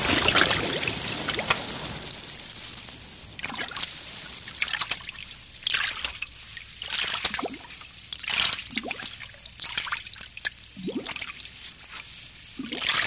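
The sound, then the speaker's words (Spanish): A boat slides into the water of the Caribbean Sea, followed by splashing, trickling and sloshing as water moves around the hull, moderately loud with no one speaking. “Todo listo. Al agua, Pato.”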